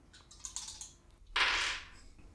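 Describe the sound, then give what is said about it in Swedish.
A quick run of small hard clicks, then a louder, brighter rattle as two dice, rerolled in a game, tumble and settle on a tabletop, fairly quiet, with no voices. “Hon kastar om 2 tärningar.”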